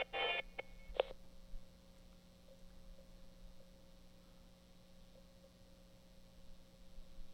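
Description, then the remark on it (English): A cell phone goes off in an office with a couple of short electronic tone bursts in the first second, then a faint steady electronic tone and low hum linger. “I'm sorry, I made the mistake of bringing my cell phone in for the office with me.”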